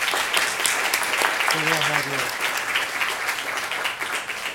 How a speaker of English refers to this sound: So a round of applause for us.